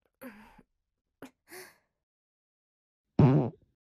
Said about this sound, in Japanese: お腹の中に溜め込んだ圧縮した猛毒卵ガスがちょっとずつ降りてきて、すごい量のおならになっちゃってるんだよ。だからこんな風に。